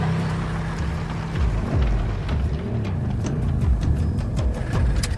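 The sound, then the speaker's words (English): A motorbike engine rumbles as the rider rides up to a dilapidated filling station, its pitch swooping down and up as it rolls in and settles toward a lower throttle, with scattered light rattles and clicks over the steady drone. “Alice disassembles the crossbow and rides up to the dilapidated filling station on her motorbike.”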